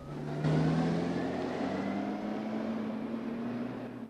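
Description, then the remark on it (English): A car engine revs up and accelerates as the car pulls away down a long, winding driveway, its droning pitch climbing steadily, staying loud before easing off slightly toward the end. No voices. “He watches her, sighing, as her car disappears quickly down his long, winding drive.”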